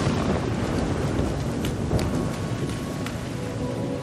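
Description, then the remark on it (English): Steady, heavy rain pours down continuously with a dense hiss and patter, and a low rumble of thunder rolls underneath throughout. No voices are present. “You might catch cold under the rain.”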